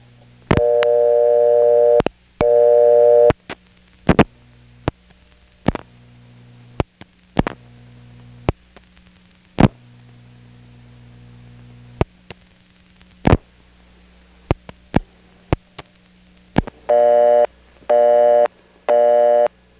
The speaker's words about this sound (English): Clayton busy signal sounds almost like a bell system tone, very common in crossbar 5 and step offices.